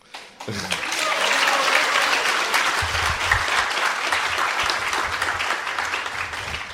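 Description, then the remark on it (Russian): An audience bursts into sustained applause welcoming a guest, dense clapping that swells quickly and holds steady and loud for several seconds, with faint voices mixed underneath. “That deserves a bigger applause.”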